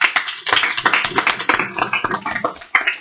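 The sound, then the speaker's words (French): A crowd applauds steadily for about three seconds to welcome a guest to the Radio FR de Brousse club, a dense, crackling patter of many hands clapping at once, fairly loud throughout with a brief dip and swell near the end. No one speaks. “merci de venir dans notre club Radio FR de Brousse, sous vos applaudissements.”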